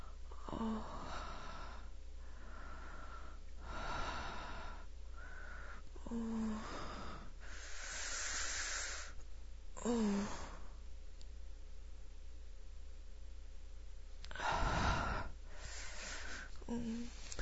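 Heavy breathing with a series of breathy, wheezy inhales and exhales, punctuated by small voiced gasps at an uneven rhythm; no words are spoken.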